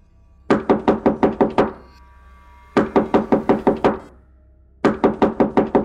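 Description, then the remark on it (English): Three bursts of loud, rapid banging on the door of an old man's house in the darkness, each about seven evenly spaced heavy knocks, separated by short pauses. No voices are heard. “He had just finished dressing up the dog's wound when the banging started again.”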